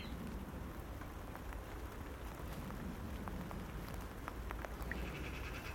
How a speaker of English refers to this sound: So anyway, as you'll probably hear, it's raining. That was the forecast. Loads of rain over today and tomorrow. It's actually that beautiful rain though.